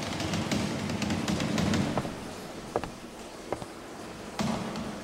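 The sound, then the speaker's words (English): A steady, hissing rush of running water upstairs in a house, with a few sharp clicks and knocks scattered through it and a brief lull in the middle. No one speaks. “Sounds like running water.”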